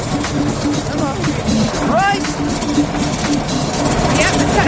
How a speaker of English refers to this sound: the brothers are having trouble starting their pesky lawnmower engines.